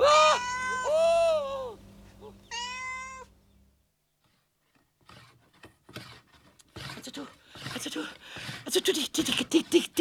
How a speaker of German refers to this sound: Die Katze, die ist mir fast ins Gesicht gesprungen. Die Katze, weißt du, die Katze ist ja sowas Feiges, weißt du? Also, die Katze, die lief plötzlich weg und ich immer vor ihr her. Und dann ging die Rauferei los und, weißt du, bald lag ich unter ihr.